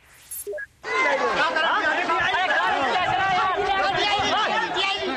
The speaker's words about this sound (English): Asia has been sky-gazing today. Parts of the continent had a prime view of the longest total solar eclipse of the century. And you can hear the excitement as the crowds gather.